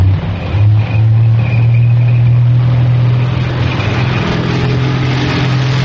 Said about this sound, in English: Is the sound of a tank, the sound of the war in North Africa in the summer of 1942, as Rommel's Africa Corps delivered a series of devastating hit-and-run blows to the British Army.